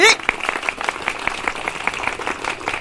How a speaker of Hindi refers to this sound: इसी बात पे सब बजा ताली।